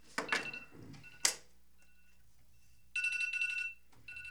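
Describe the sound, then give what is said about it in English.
A few sharp knocks and clatters give way to a bright, electronic phone ringtone: a brief burst of layered high tones, fairly loud, that stops abruptly after under a second. “Why do you have an alarm set right now? Oh, that's your ringer?”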